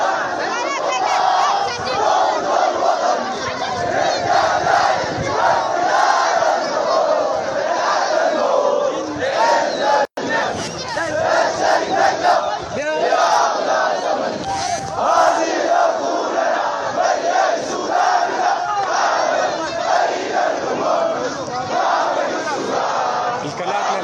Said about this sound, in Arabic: وفي ولاية الجزيرة خرج آلاف المتظاهرين في مدني تنديدا بالانقلاب العسكري، وردد المتظاهرون هتافات مناوئة للبرهان، وأقلق المتظاهرون الطرق والكباري الرئيسية في المدينة باستخدام المتاريس.